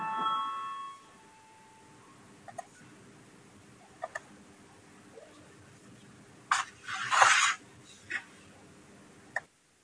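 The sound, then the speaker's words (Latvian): A short electronic voting bell rings in a parliament before a vote, sounding at the very start and fading within a second, followed by quiet room tone, a few sharp clicks and a brief rustling burst. No one speaks. “Lūdzu zvanu, balsosim par pirmo deputāta Girdžana iesniegto priekšlikumu, lūdzu balsosim.”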